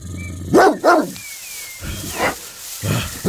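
A dog barks to scare off a snake: it barks sharply and loudly twice in quick succession, then lets out a few quieter, rougher barks after a short pause, with no talking.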